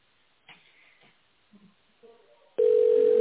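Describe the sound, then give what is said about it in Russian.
A steady, loud telephone signal tone, following the automated greeting of the company Tolpro Ural, cuts in suddenly and holds as one unbroken pitch after a few faint, scattered sounds and brief murmurs; callers dial an employee's extension after it. “Если вы знаете внутренний номер сотрудника, наберите его после звукового сигнала.”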